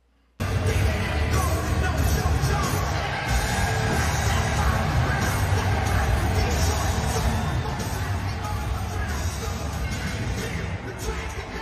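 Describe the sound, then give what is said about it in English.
A large crowd in Florida cheers for the Republican in a loud, sustained roar that starts abruptly and holds steady for about eleven seconds, with no single voice standing out from the dense wash of noise. “Booing in New York for Democrats and cheering in Florida for the Republican.”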